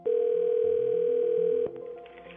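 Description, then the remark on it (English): A telephone ringing tone sounds as one steady, loud electronic burst lasting over a second and a half, with soft shifting tones underneath, then cuts off into a quieter background, as someone phones another person, who picks up. “She picks up. She always picks up.”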